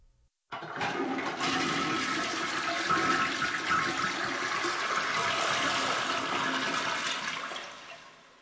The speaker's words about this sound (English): Sorry, I had to flush my goldfish down the toilet.